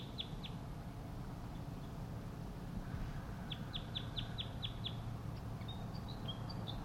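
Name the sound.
wild crossbill tooping call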